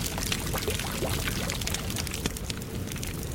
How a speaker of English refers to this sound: Pulling Riva's tattered robe aside, Voren cracked the seal on a bottle of water and poured half of it on a blackened gash near the man's ribs.